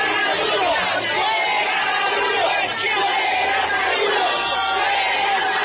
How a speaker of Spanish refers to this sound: En Ciudad de México se vivió auténtica tensión luego de que simpatizantes mexicanos de Maduro se encararan a gritos con seguidores venezolanos de Juan Guaidó.